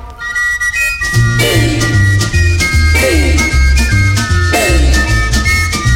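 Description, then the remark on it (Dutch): A bright, high whistled melody skips along over a full band with steady bass and drums, loud and upbeat, repeating a catchy phrase without any singing. “Zijn lied kwam op een songfestival, en nu fluit iedereen overal.”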